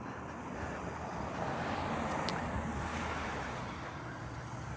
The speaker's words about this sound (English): And it turned out that back on Cole Road again, you can hear the cars.